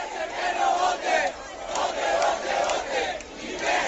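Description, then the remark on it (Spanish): A large crowd in Puerta Jerez square in Seville celebrates Spain's Euro Cup win, a dense, continuous roar of many voices shouting and cheering at once, swelling and dipping slightly but never pausing, with no single speaker standing out. “El sonido de la Puerta Jerez en la capital, pero en la provincia también se ha celebrado”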